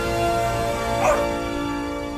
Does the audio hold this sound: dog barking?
yes